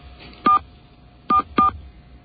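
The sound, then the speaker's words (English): Three short touch-tone keypad beeps, one followed by a pause and then two in quick succession, clear over a faint background hiss, as a 10-digit home telephone number is entered into an automated phone line. “We're going to enter NBC's home phone number.”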